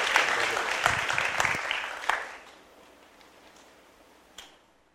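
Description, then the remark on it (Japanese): A burst of audience applause at KBF to welcome a speaker, dense clapping for about two seconds, then quickly thinning to a few scattered claps that fade into near silence with one last clap near the end. “Let's give him a hand of encouragement.”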